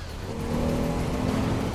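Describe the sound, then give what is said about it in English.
A dark-coloured van's engine revs and accelerates at night on a wide road near a bend, coming alongside another car; a steady, building motor drone with road rumble and no voices. “The van accelerates to come alongside Wayne's car.”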